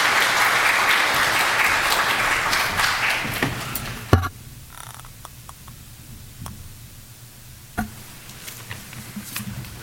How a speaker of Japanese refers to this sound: 今日はこのお二人をお迎えしての、礼拝御言葉となりますので、大きく期待して私たちはお迎えしたいと思います。では拍手を持ってお迎えしましょう。